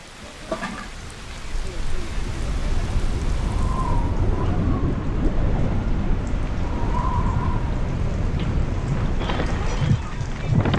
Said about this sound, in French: Il est 16 heures, c'est l'heure de la verse quotidienne. Chaque jour, l'eau de pluie ramollit un peu plus la montagne.